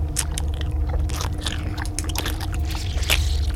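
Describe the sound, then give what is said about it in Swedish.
Wet, smacking, ruminating chewing sounds with repeated moist clicks and squelches in an uneven rhythm over a low steady hum, no talking. “Ni hör ett smaskande.”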